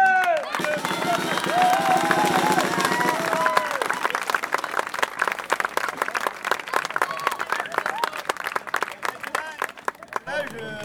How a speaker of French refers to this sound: Aujourd'hui, ben, on a la chance qu'elle soit encore là. J'aimerais qu'on applaudisse encore l'association.